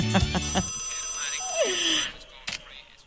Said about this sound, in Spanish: ¿Y quién llama a esta hora también? Ah, el WhatsApp, ya está bien.